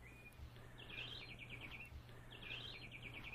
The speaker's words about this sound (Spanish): En la posada de Agua Blanca, son las 9 de la mañana, y desde los árboles del huerto llega el trinar de las aves del trópico.